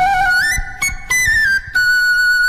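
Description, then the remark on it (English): A penny whistle plays a short, bright melody, with clear tonal notes that slide and hold, separated by a few brief breaths between phrases. “Penny whistle?”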